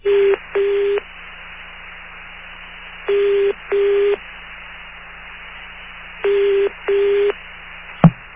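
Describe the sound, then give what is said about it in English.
An international telephone call to a phone company in England going through: three pairs of short, steady mid-pitched ring tones repeat about every three seconds over a low line hiss, ending with a sharp click as the call connects. “I'm going to try the phone company over in England.”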